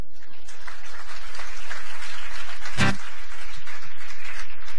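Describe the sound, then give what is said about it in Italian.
An audience claps steadily in a dense wash of applause, with one sharp louder clap or thump standing out near the end, and no speech. “Ha fatto l'Oriente applauso.”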